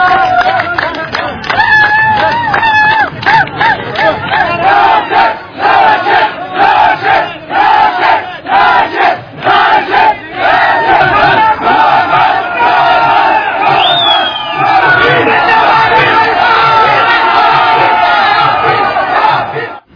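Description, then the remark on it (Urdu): A large crowd of fans celebrating in the street in Afghanistan roars and cheers continuously, with overlapping shouts, whoops and chanting voices forming a loud, dense wall of celebratory noise that never lets up. “یہ آپ نے مناظر دیکھے جو افغانستان کے فینس اسٹریٹ پہ نکلے ہوئے تھے, اور اگر ہم آپ کو تصویر دکھائیں جو ہجوم تھا اسٹریٹ پر افغانستان میں, کہ دیکھ سکتے ہیں کس طرح انہوں نے اس جشن کو منایا”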